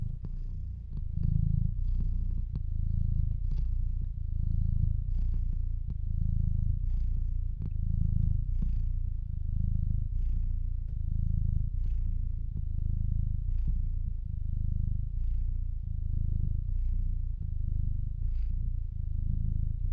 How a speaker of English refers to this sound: Thank you for the soft purrs that warm my heart.